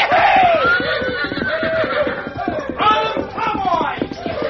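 A big bucking horse neighs shrilly several times amid a continuous din of excited shouting cowboys, loud, with stamping and commotion throughout, as a rider clings to its back.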